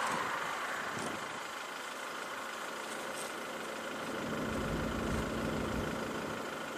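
A motorboat engine drones steadily on a lake, a continuous low rumble with a slight swell toward the end as it moves past. No one speaks.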